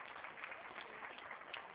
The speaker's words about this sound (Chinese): 有几位女学员自发组成的天韵艺术团向来宾们展示了中国传统的扇子舞，优美的舞姿赢得了观众们的阵阵掌声。